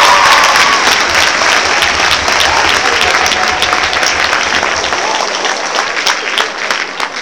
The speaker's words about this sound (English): So that little measly clap you just gave me, you need to do it all over again. Try it one more time. There we go.